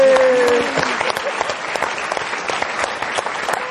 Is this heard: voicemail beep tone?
no